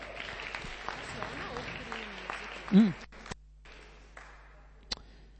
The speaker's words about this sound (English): But let's also give a nice round of applause for Aniki Wasserman.